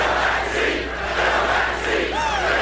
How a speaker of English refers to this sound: Justice Ruth Bader Ginsburg died on Friday, and by Saturday night, a new chant emanated from the crowd at Trump's campaign rally. Fill that seat.